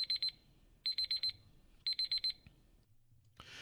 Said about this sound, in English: And you heard that beep, beep, beep, and you know what that means. That means that's it. That's all we have today for headlines you may have missed.